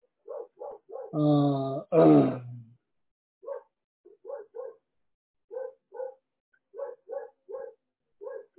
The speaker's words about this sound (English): You hear the dog? Yeah, we have four of them, so outside.